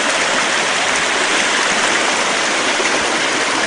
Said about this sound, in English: Here the creek is about 12 to 15 feet wide.